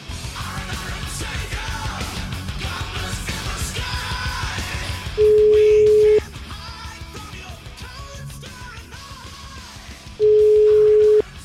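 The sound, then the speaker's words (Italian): Two long, loud telephone ringing tones, each about a second and spaced several seconds apart, sound over busy background music while a call is placed to a Fratelli d'Italia party official in the province of Forlì. No one speaks. “Cioè, ragazzi, dai, chiamiamolo, vai, chiamiamo, datemi sto numero di telefono, forza.”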